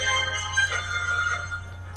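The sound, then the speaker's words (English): A phone ringtone styled like a sci-fi communicator chirps with warbling electronic tones for about two seconds, clear, over a steady low hum. “It's Star Trek. Well, that's because you saw my phone.”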